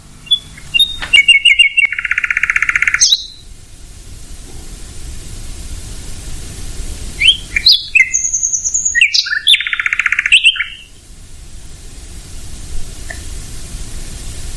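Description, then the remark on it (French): A songbird, a virtuoso night singer, sings two bursts of varied phrases with rich trills, rapid notes and sharp whistles, clear over a steady hissing background, with a quiet pause between them. “De jour, son chant est masqué en partie par les autres chanteurs, merles, grives, pinsons, etc.”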